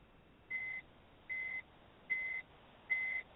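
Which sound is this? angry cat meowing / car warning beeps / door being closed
car warning beeps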